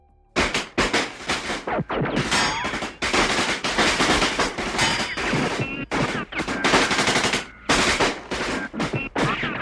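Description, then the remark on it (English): Sustained bursts of automatic gunfire rattle almost nonstop, loud and dense, with rapid cracking shots broken by a few brief pauses. Several weapons seem to overlap, and no voices are heard. “Anthony's finger never left the trigger as he cleared the path through the courtyard.”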